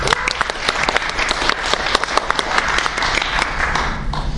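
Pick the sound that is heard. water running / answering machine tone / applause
applause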